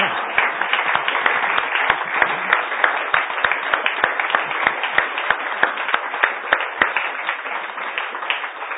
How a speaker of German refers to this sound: Danke. Danke, Sie dürfen jetzt klatschen ohne Anweisung.